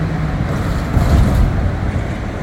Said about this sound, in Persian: عمدن ترافیک شهریش هم براتون فیلم گرفتم که کامل شما دیدگاه پیدا بکنید.